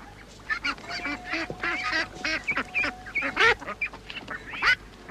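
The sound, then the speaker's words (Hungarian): Several ducks quack loudly and rapidly in a frantic, overlapping chorus, harsh honking calls tumbling over one another for several seconds with no pause, agitated. “Nézd már meg, Ferkó, nem a róka hajkurásza a kacsáimat.”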